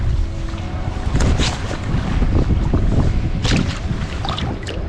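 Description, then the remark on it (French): Steady wind gusts across open water while fishing from a boat, with a loud rumble of wind buffeting the microphone and faint splashes against the boat hull; no one speaks. “Le vent s'est levé, j'avais du mal à sentir le leurre souple.”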